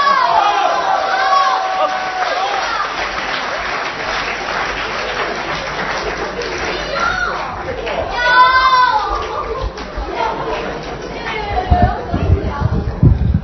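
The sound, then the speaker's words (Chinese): An audience at a Chinese crosstalk (xiangsheng) comedy performance claps steadily for over ten seconds. It is a dense wash of applause with scattered voices and cheers mixed in, swelling briefly partway through before carrying on. “感谢大家掌声啊！”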